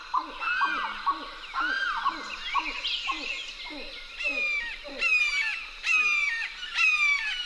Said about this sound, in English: Lang Elliott and Ted Mack went to the Wakissa River's edge and recorded chattering grebes, a limpkin, and the harsh call of a red-shouldered hawk.